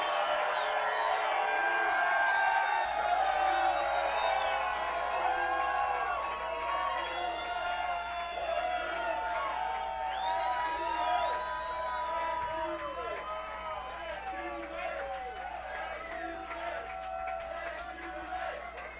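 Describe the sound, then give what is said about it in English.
A large crowd at a party in Palatine, Illinois screams and cheers loudly and continuously, many voices overlapping in high-pitched yells and whoops that stay intense throughout, with a steady low hum underneath. “They ain't gonna come out if you don't scream real loud.”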